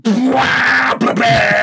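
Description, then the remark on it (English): A person imitates the exhaust of a beaten-up old Honda Accord whose exhaust split and muffler is gone, driving through quiet Luxembourgish towns: a loud, raspy, droning vocal rumble held for over a second, with a brief break in the middle before it roars on. “And when that happens, the car still runs, but the noise it makes is unbelievable because the muffler's gone.”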